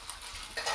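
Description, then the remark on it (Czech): A brief, soft papery rustle of pages being leafed through, a steady dry swish that grows slightly louder in its last moments as another page turns. No voices. “Listování.”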